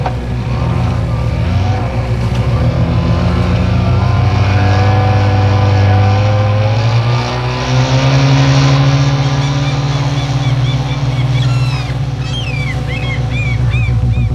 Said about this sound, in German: Er startete den Motor und raste zu den Klippen hinüber, wo sein Haus stand.